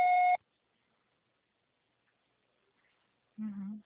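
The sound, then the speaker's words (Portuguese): A single short, loud voicemail beep opens, a steady electronic tone, followed by about three seconds of silence before a voice briefly starts speaking. “Grave seu recado.”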